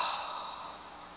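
deep breathing

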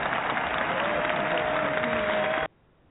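hand claps

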